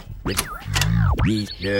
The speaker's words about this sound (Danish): Vi vil nu løfte sløret for beskeden ved at afspille det baglæns.